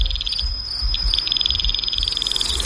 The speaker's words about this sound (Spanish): Aquí hay varios insectos diferentes, varios grillos.